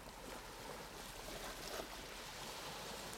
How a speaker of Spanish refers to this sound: Escucha el agradable sonido de las olas rompiendo la orilla.